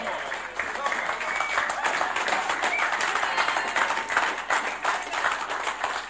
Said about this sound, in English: You guys have amazing pastors. And because I've been, give them a clap.